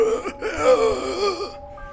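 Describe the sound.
A voice imitates a creature's weird, strained moaning gasps, a wavering pitched wail that rises and falls for about a second and a half before cutting off, fairly loud.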